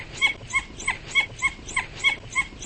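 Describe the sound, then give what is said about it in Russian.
A red wolf (dhole) gives a rapid series of about nine short, two-toned whistling yelps at a steady rhythm, each call combining a low and a high pitch at once, two fundamental frequencies, clear. “Это не уникально для красного волка. С 2 основными частотами кричат и домашние собаки, и серые волки”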